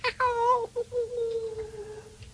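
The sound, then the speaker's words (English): A person imitates a cat with a drawn-out, whiny meow, rising sharply then sliding slowly downward. It's a single, fairly loud call. “Meow, take a few quarts. Meow.”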